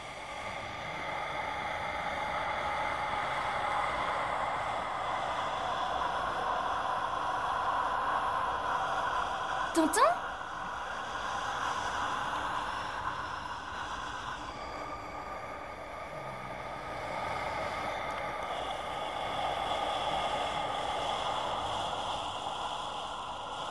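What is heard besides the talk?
calm steady wind blowing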